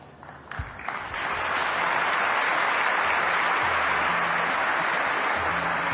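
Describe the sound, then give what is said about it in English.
An audience at a Bal Vikas gathering breaks into applause for three people, starting softer and quickly swelling into steady, loud clapping from many hands that holds for several seconds. “Thank you and a big round of applause for all three of them.”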